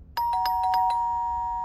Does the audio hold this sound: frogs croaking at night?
no